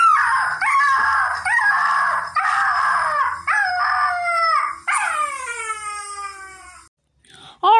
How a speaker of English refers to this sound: Nina was becoming even more annoyed as the dog whimpers became louder.